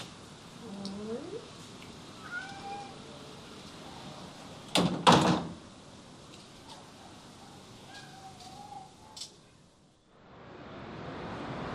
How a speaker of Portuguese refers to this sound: Laerte sobe as escadas da casa. Abre a porta e entra.